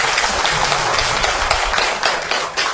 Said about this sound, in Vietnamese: Xin quý vị cho một tràng vỗ tay.